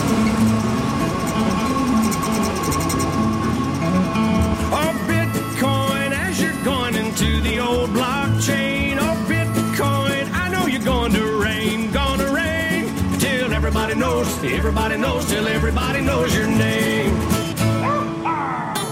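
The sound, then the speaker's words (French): Small computer cooling fans in a bitcoin-mining data center, among electrical cabinets over 2 meters high full of cables and computers, blow in a steady, loud, continuous whir, a dense rushing hiss layered with several high whining tones that hold throughout without pause. “Et on entend les petits ventilateurs qui soufflent.”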